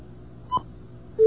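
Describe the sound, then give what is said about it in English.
Two short electronic telephone keypad tones from a number being dialed at WUSB Radio, one near the middle and another starting at the end, each a steady beep over a low background hum with no talking. “Let's try that one more time, and then we'll take some more calls. What should I dial?”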